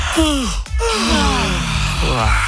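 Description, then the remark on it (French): Several voices yawn at once, on purpose to wake up after a count of three, long drawn-out vocal sighs with falling pitch that overlap and trail off, fairly loud, with a brief breathy gap near the start. “Faisons une session de juste pour se réveiller, parce que apparemment le fait de bâiller après, ça vous réveille pour la journée.”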